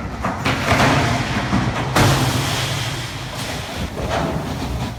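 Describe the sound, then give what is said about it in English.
The cruise ship Infinity crashing into a dock as it tries to maneuver in, filmed from a boat at a nearby dock: a loud, steady rumbling roar of grinding and scraping, with a few sharper crunching surges. No one speaks. “Here's what it sounds like when infinity hits reality.”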